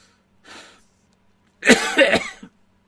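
man coughing

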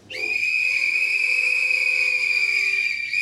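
audience whistling in response

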